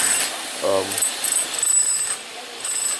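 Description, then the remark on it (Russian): A demolition hammer fitted with a small saw blade grinds and rasps steadily as boards are ripped off, with scraping, crackling bursts and a short low droning buzz near the start, loud. “вы видите, друзья, идет отдирание досок. Это такая пила, как бы у него вместе на отбойнике такая пилка.”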